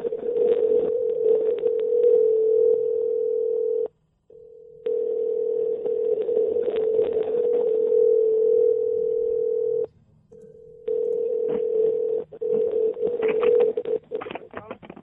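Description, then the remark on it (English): A telephone ringing tone over a phone line during a call to Walmart: a steady, buzzy tone repeating in long bursts of several seconds, separated by brief pauses, loud and clear with no talking. “Why is the phone ringing?”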